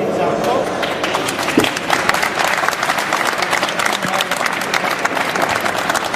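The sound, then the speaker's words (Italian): Sustained applause from an audience in Rome fills the whole stretch, a dense, steady patter of many hands clapping without letting up. “Eh no, ma questo siamo a Roma, qui ci vuole un applauso caloroso, perché sono i veri protagonisti e vi racconteranno cosa ci sta dietro questi uomini.”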